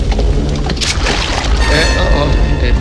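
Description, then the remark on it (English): Part of a burning roof caves in with a loud, sustained low rumble, punctuated by crunching bursts of falling debris and a crackling, splashing wash of rubble over about three seconds. “Part of the roof collapses”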